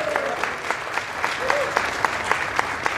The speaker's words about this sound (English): Big round of applause for Mr. Pat Short.